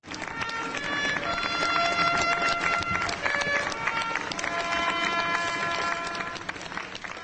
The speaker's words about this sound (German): Er wurde begleitet vom Klingeln der Schlüsselbunde als Erinnerung an das Ende des Kommunismus sowie von spontanem Applaus.